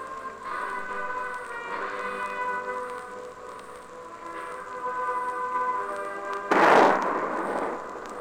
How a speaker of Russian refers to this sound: Сейчас первый выстрел салюта.